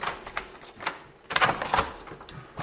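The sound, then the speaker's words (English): A bedroom door, marked with its own number like a front door, is opened with a rattle of the handle and metallic clinks like keys, followed by a louder clatter as it swings. No one speaks. “We've got a bathroom just here, yep, that they share, and we're just going to go through. Each door's got its own number on it, like a front door.”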